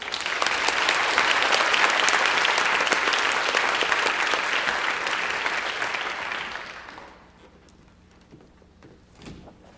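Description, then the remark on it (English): Sustained audience applause at an awards ceremony for a nominee for Outstanding Sound Design in Hickory Dickory, a dense, steady clatter of many hands clapping for about seven seconds before tapering off into almost quiet with a brief faint knock at the end. “Just give him a hand.”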